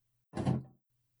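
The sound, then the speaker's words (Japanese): A stiff, badly fitted door that had been stuck shut grinds open in one short, heavy scraping push, fairly loud, then falls quiet; no one speaks. “もしかしてさっき私たちが激しく動いたせいで、もともと立て付けが悪かった扉が偶然直ったとか？”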